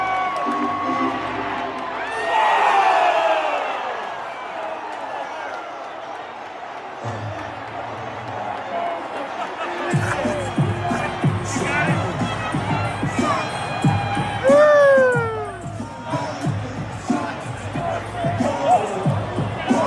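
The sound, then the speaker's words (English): A large crowd of fans cheers and whoops throughout as a man is led away in handcuffs, with rising shouts and excited yells layered over a steady roar of voices, swelling louder near the middle before continuing in lively bursts. “Now, you're going to hear him cheering, and that's them cheering as he's being carted off.”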